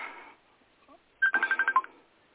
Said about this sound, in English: And I have a phone call coming in. And let me just accept this for a minute.